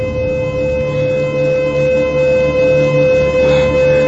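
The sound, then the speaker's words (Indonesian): A loud elevator overload warning alarm sounds continuously in a lift at floor B3, its indicator showing full, a steady electronic tone with layered pitches holding unbroken for several seconds, with no voices. “Sampai sebuah peringatan terdengar dari lift ini.”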